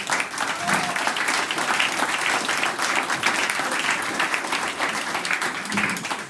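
Steady applause from an audience welcoming the vice mayor of the town of Trofaiach, Alfred Lackner, a dense wash of many hands clapping at an even loudness for several seconds, with no voices standing out.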